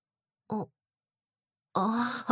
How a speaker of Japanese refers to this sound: 本当ですね。泣いています。